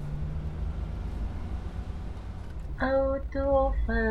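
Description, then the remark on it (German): A steady low engine rumble of a car driving, followed by three short horn honks near the end, the last two close together. “Auto fahren, komm, wir wollen Auto fahren.”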